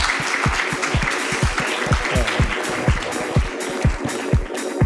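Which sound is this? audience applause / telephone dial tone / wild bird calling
audience applause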